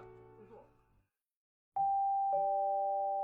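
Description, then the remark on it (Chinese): A loud doorbell at an apartment's front entrance door, pressed by a stranger, sounds a two-note ding-dong chime, both tones ringing out and sustaining. A brief bit of speech and a moment of silence come before it. “门铃的声音将郭明唤醒，他轻手轻脚走到玄关门，通过猫眼查看是谁来了。”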